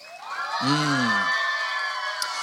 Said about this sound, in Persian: حالا برای اینکه شما نشون بدین خسته نیستین و اگر پیامبر به شما میگفتن برگردین شما خوشحال میشدید، هورا بکشین، کف مرتب هم بزنین ببینم.